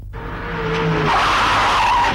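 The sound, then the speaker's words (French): A car brakes hard, its tires letting out a loud, rising squeal that stretches across a couple of seconds over a rumbling engine, with no voices. “Côté freinage. J'ai rien contre.”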